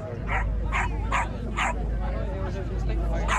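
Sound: dogs barking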